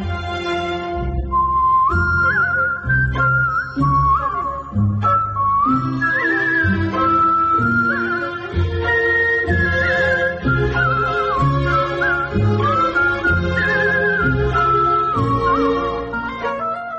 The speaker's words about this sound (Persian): تیتراژ پایانیش رو با سوت اجرا کردم به عنوان سولیست، که تجربه خیلی متفاوت و جالب و ارزشمندی بود برام.